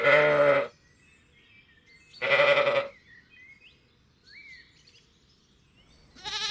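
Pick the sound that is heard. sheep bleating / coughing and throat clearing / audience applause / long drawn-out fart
sheep bleating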